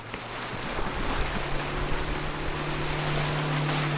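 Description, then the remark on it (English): Steady rushing water of the Kenai River with wind buffeting the microphone, heard from aboard a boat heading down to Moose Meadows to set a 20-foot net, a low steady engine hum running underneath throughout. No one speaks. “We're on the Kenai River.”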